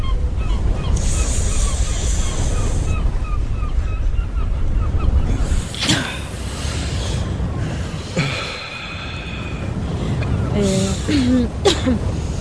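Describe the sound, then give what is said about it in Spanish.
Steady surf washing onto a shore, a continuous broad roar of breaking waves that swells and eases, with a few sharp bird cries cutting through near the end. “Bueno, ¿te metes al mar?”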